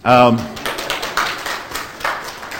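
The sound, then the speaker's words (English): A brief spoken sound gives way to a scattered round of audience applause, with irregular claps of moderate loudness continuing steadily to the end. “Now you can applaud.”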